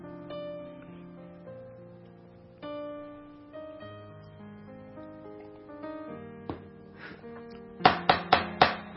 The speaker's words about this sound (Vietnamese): Thị đồng gõ cửa.